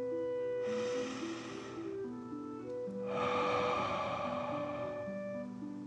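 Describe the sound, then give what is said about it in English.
A deep 'dragon breath' drawn in through the nose, a short pause, then a long, slightly louder breath pushed out of the mouth, both airy and rushing over soft, steady background music with no talking. “Again, deep breath in and out.”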